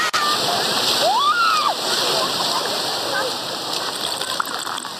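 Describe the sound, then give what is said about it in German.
Ocean waves wash onto a beach in a steady, loud, continuous roar of surf, with a brief high rising-and-falling cry near the start and no voices. “Wer würde jetzt nicht gerne am Strand liegen, den Wellen lauschen und einen leckeren Cocktail schlürfen?”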